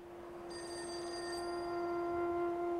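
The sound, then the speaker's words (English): A telephone rings with a steady, bright electronic tone that holds for the whole stretch, a shrill upper layer briefly joining near the start, heard alone with no voices. “While her phone rings,”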